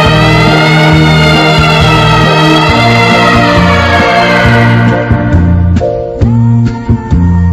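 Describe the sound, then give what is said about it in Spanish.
A sustained, wailing siren tone with rich overtones that slowly drifts in pitch, heard from far away over low droning chords before fading out into a few sharp knocks at the end. “Me acuerdo que nuestras palabras fueron rotas por una sirena que corría lejana, quién sabe dónde.”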